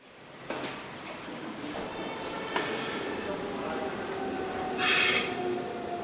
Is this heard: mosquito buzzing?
no